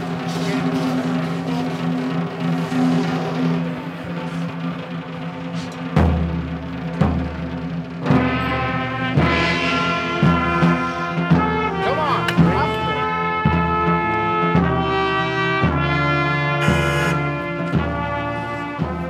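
A mortuary brass band with a tuba plays a slow, solemn funeral march while leading a funeral procession, with a car, the hearse and mourners' cars following slowly; sustained horn chords over a steady low bass beat that enters a few seconds in and carries on at a measured pace.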